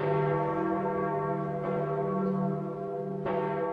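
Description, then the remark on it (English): A large church bell rings out steadily to announce that a new pope has been elected, its deep tolling strikes arriving about every second and a half over a long, humming resonance, loud with no voices. “And then slowly we saw the bell start to move, and that's the point at which we knew that a new pope had been elected.”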